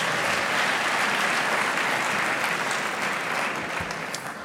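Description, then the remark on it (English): A large audience at the 2012 Olin Lecture claps steadily, a dense, sustained wash of applause that begins to taper slightly toward the end, with no talking over it. “Give yourselves a round of applause for being cooperative.”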